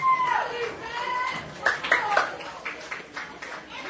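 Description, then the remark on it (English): A loaded Washington County crowd of cheerleaders, friends, family and parents cheers and claps at a baseball game as a newly brought-in relief pitcher needs one out, in a steady, moderately loud wash of noise, with individual shouts and raised voices rising above the scattered clapping. “Washington County crowd will remind him that he just needs one out, and that they believe in him and are here to support him.”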